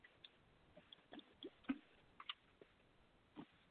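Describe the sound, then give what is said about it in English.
Someone drinks water, with a handful of quiet, wet gulps and mouth clicks spaced irregularly over a few seconds. There is no talking. “That's right, I didn't even try to hide that water.”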